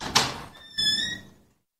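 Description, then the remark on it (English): A building's front door clicks open with a sharp latch clunk, followed by a drawn-out, high-pitched hinge squeak as it swings, then quiet. “While I was scrubbing the sinks, though, I heard the front door of the building open.”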